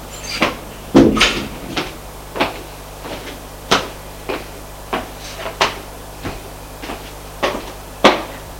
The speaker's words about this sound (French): Au revoir. Et il sort, elle ferme la porte.